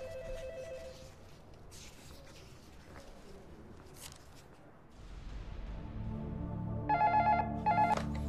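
telephone ringing unanswered

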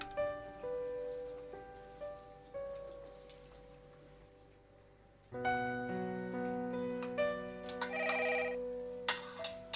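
telephone ringtone

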